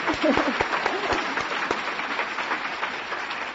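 A crowd breaks into steady applause for the Lord, dense overlapping claps at a fairly loud level for a few seconds, with a faint voice briefly audible at the start.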